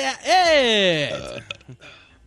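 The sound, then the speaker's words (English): One long, loud, croaky burp after a big swig of Coke C2 soda, dragging on for most of a second and sliding lower in pitch, followed by a few faint, brief mouth noises. “Burp, burp, burp, burp. God damn, dude. I took a big swig.”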